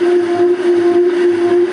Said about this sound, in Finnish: Luulen, että aavistat ihan oikein, mutta tuollainen soinillinen ääni, niin se ilmeisesti johtuu siitä, että potkurit värähtelee siellä vähän.